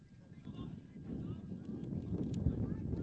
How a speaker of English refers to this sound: Big gust of wind comes on through, and there's a fastball missing on the outer third.